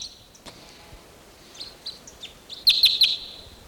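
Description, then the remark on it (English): Wild birds in a tree above a net, thought to be type 6s, at least one red and the rest juveniles or females, chirping with high, thin calls: a few soft scattered chirps, then a quick run of three loud, sharp notes near the end. No one speaks. “Pointed at the wild birds.”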